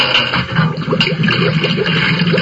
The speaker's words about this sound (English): And he blinked his eyes as more water flowed into the vessel. He turned off the water cock. The noise worried him.